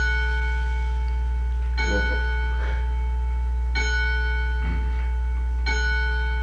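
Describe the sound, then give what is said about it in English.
A clock chimes in slow, evenly spaced strokes, each bright metallic tone ringing on with a long sustained hum beneath, while soft murmured voices come through between the strikes. “Not very many of that, those kind of clocks in the country, no.”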